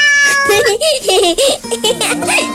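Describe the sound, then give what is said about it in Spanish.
A cat meows in reply several times in quick succession, a string of rising and falling high-pitched mews that sound fairly loud, with no talking over them. “No sé hablar el idioma de los gatos. ¡Inténtalo! A ver. Miau, miau, miau, miau, miau.”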